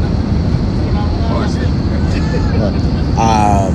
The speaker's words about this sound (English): So actually also bear with me with the noise. It's obviously, again, I'm on the plane. There's a lot of people around me and just, yeah.